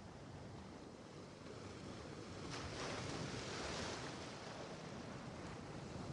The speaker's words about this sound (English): And as you continue to take more steps forward, more waves wash over your feet. Feel the delightful cool water provides relief from the heat.